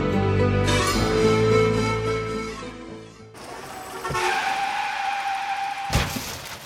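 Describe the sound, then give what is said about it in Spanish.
A car skids with a loud, sustained tire squeal, then crashes, with sharp impacts and clattering debris over a lingering screech. It is loud, with no voices. “¡Qué tirada le di a ese carro!”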